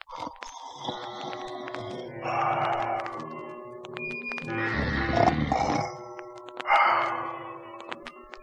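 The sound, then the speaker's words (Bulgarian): A wolf snoring loudly in bed, with deep, rumbling, grunting breaths that swell and fade in a few long, uneven waves. There is no speech. “Заспал и захъркал.”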